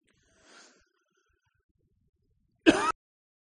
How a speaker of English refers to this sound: Not coughing into the microphone.